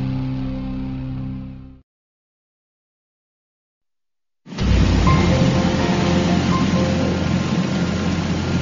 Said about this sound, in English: A DC-3 freighter rolls onto the Buffalo ramp, finishing a trip from Hay River.